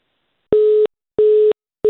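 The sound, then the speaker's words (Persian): A telephone busy tone after a call drops: loud, steady, evenly spaced beeps at a single pitch, with the last one cut off at the end. No voices. “بله تلفنم بیرتا قطع شد.”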